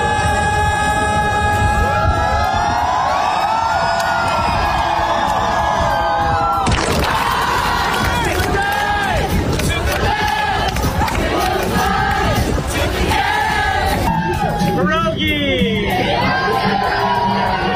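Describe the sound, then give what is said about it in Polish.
A large outdoor crowd of fans cheers and shouts in Kraków's main market square, by the Adam Mickiewicz monument, at a surprise mini concert by a visiting singer: a dense continuous roar that swells sharply partway through, with whoops and yells rising above the loud wash of voices. “Brzmiał ten mini koncert przy pomniku Adama Mickiewicza, choć widownia mini nie była, na rynku tłumy,”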